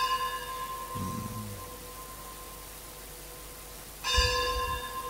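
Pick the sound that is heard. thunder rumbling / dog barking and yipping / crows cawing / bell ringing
bell ringing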